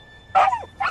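A dog barks twice in quick succession, sharp yips with a slightly whiny, falling tail on the first, over a quiet background.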